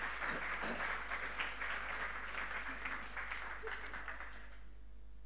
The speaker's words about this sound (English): And yeah, I think that deserves a little round of applause.